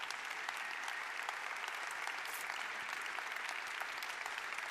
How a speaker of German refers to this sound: Da war ein zaghafter Versuch für Applaus, der ist jetzt angebracht.